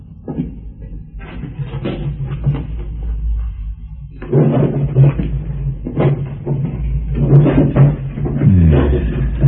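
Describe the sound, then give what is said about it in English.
Desk drawers slide open and shut while their contents are rummaged through, with busy wooden clunks, rustling and scraping continuing throughout. No one speaks. “Go through the drawers on that desk.”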